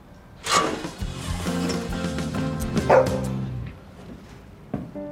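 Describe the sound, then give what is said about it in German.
A dog barks, a few sharp barks spread over several seconds with drawn-out, whiny tones in between; no one speaks. “Sie krabbelt dem Hund hinterher durch einen dunklen Schacht.”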